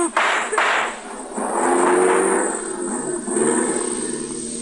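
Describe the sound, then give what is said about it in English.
A car engine catches with a sputter, then revs into a loud, sustained roar with a rough, throaty growl that holds steady for several seconds as it drives off. “Man, what a car.”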